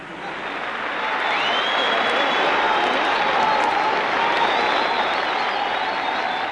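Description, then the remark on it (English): A theatre audience applauds at a Saturday night curtain call, a dense, sustained wash of clapping hands that swells in the first second and then holds loud and even throughout, with no voices standing out. “Listen to them beating the daylights out of their hands there.”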